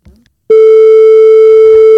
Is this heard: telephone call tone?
yes